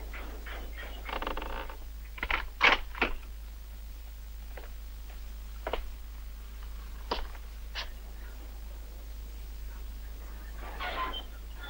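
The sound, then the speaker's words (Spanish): Old wooden boards creak and tick in a scattered, irregular series of short, dry bursts, a few stretching a little longer, against an otherwise quiet, steady background hum. “Desde la cocina, un Round escucha el crujir de las viejas maderas”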